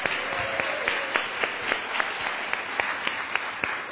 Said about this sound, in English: So let's do one big cheer for everybody in our congregation. Cheers for the congregation. Woo! Yeah, there you go. Yeah.